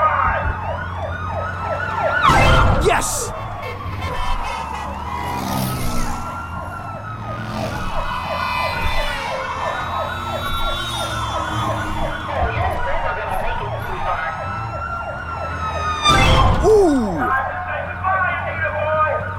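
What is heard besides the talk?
police car siren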